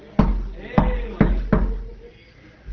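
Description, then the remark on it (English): Four sharp, loud knocks on a wooden door, with a slightly uneven rhythm: two spaced apart, then two quicker ones, followed by a quiet stretch. “Then he knocked on my door.”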